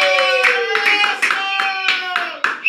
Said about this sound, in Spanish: ¡Fuerte el aplauso!